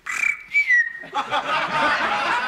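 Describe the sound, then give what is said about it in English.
A person whistles an imitation of a canary call: a steady high whistled note that dips slightly, then a burst of rapid, buzzy warbling trills that carries on loudly to the end. “What kind of bird was that? Well, what was it? That was a canary.”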